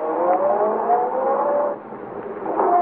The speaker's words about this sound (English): At the moment she's sending the big car roaring down the driveway, you're walking quietly into Arnold's study for the most important steps of all.